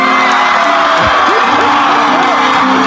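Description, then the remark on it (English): A loud crowd cheers and whoops continuously, with rising shouts and excited yells layered over a dense roar of many voices for the whole stretch. “Listen, the crowd's gonna go nuts.”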